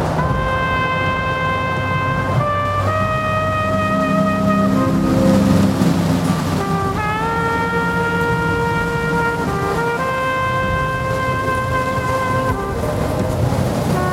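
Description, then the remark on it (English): Hurricane Katrina's wind roars steadily while the aluminum siding of a building is peeled off, giving off long, loud metallic shrieks that hold a pitch, then jump to new tones again and again. No one speaks. “Everything is ripping the whole aluminum siding of the building off. You can actually hear it being peeled”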